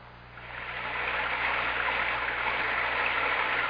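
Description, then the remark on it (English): Steady, dense rushing water of a raging torrent roars without a break, a broad hissing wash that swells slightly in the first second and then holds loud and constant, with no voices. “Sometimes a gentle rain in one place adds up to a raging torrent in another.”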